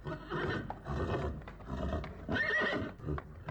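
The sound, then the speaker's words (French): Several horses stamp and shuffle while loud, drawn-out neighs and whinnies rise over the trampling, especially a shrill one midway through. “Elle ne s'éveillait pas, malgré le piétinement des chevaux.”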